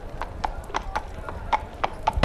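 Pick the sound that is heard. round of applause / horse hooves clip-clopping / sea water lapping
horse hooves clip-clopping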